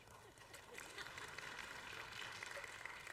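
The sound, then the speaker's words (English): A crowd claps steadily, a dense wash of many hands blending together, sustained for a few seconds without anyone speaking. “You don't have to clap.”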